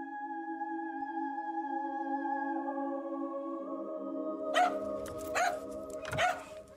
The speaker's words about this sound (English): My dog came down kind of barking at the bedroom door, which is not unusual because he would often come down.